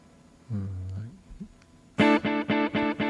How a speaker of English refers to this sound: Ah, ping pong delay is life.